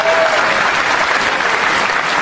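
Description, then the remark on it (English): An audience breaks into steady, loud applause, a dense wash of many hands clapping at once that holds evenly for a couple of seconds, applauding a 21-year-old woman for being in college. “I want y'all to clap it up for her being in college and getting her together.”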